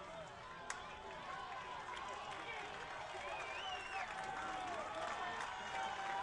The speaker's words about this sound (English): South Bend Cubs crowd making noise. They've been in it all throughout what has been three-plus hours of baseball here at Four Winds Field.